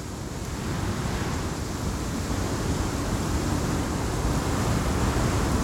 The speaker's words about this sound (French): Attends, je vais te faire entendre du vent. Tu me dis si j'ai bien compris la question. Ce vent-là, très fort.